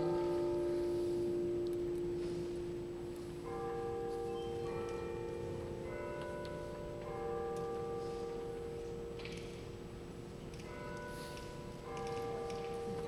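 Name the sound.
bells ringing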